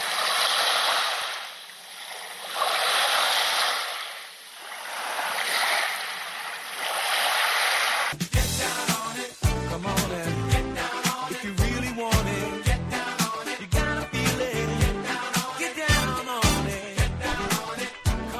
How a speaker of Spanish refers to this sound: Bueno, ya empezamos a notar un poquito la brisa, cómo nos da el agua de las olas ya en la cara